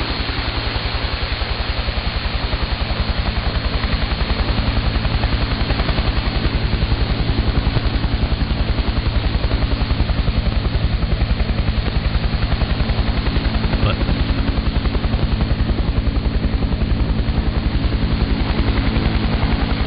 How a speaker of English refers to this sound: I used to play this every once in a while. This is the helicopter.